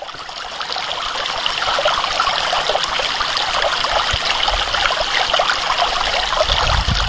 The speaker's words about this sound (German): Was wie ein Bach klingt, ist tatsächlich eine Wasserkaskade, ein von Menschenhand geschaffenes Kunstwerk, bestehend aus sogenannten Flowforms. Halbschalen, die treppenförmig angeordnet sind und von Wasser durchflossen werden